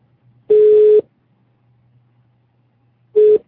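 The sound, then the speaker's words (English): An outgoing phone call rings through: a steady electronic ringback tone sounds for half a second, pauses about two seconds, then starts again, clear with no voices. “Are you hearing me ringing in now?”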